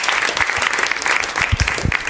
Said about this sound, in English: Yeah, is there a clapping sound? Sure.